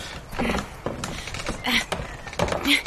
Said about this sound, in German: Also, die Tür ist aber... ganz schön verzogen. Ich krieg sie gar nicht auf. Oh. Na, halb so schlimm. Leg den Türgriff einfach dahin. Das reparieren wir später.